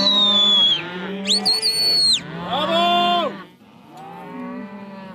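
Several cattle, bulls and cows, moo at a muster near the Clarence River a week into mating, with stockmen on horseback keeping them together: overlapping calls, one rising into a high, strained bellow, others lower and drawn out, with a quieter moo trailing off at the end. No one speaks.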